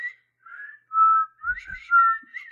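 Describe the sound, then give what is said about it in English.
A person whistles a short melodic tune, the pure tones sliding between several pitches in a quick phrase, clear with no talking. “Whistling. Yes, so, whistling.”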